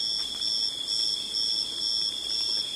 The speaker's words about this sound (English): We'll lie low until the sounds of cicadas give way to the sounds of crickets. In the tropics, darkness falls quickly.